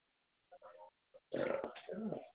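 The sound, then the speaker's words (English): A couple of short, throaty croaks lead into a loud, drawn-out belch lasting about a second, rough, with no talking. “Go somewhere else and belch.”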